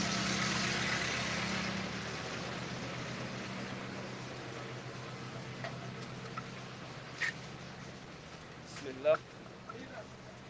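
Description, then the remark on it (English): A bus engine idles close by with a steady, low droning rumble, joined by a few light clicks and knocks while faint voices murmur in the background, as passengers get ready to board the bus. “This is our bus if we get on it, inshallah.”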